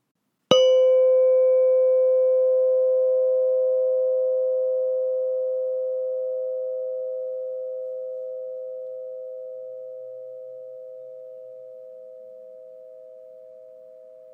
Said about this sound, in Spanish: Ahora escucharás el sonido de la campana. Date cuenta del momento en el que dejes de escuchar el sonido.